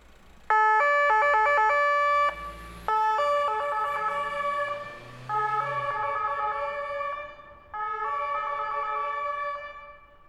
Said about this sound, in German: Du hast bestimmt schon einmal ein Polizeiauto gesehen. Weißt du auch, wie es klingt, wenn es im Einsatz ist? Du hörst jetzt die Polizei.